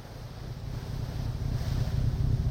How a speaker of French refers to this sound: Un premier motif s'esquisse, le moteur. Une séquence ondulatoire riche en harmoniques, un tempo régulier, hypnotique.